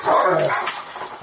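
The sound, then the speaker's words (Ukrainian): A malamute, a wolf-dog mix, barks and vocalizes loudly in one drawn-out, throaty outburst lasting about a second, with no one talking. “У Джона вдома два пса-маламута – суміш вовка і собаки.”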